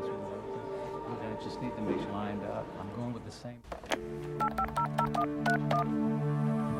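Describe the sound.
Someone talks briefly, then a lawyer's telephone number is punched in: a quick run of about seven or eight keypad beeps over a steady tone, clear.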